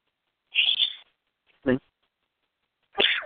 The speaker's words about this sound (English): All that sneezing made me move my train of thought, so I'm going to go back.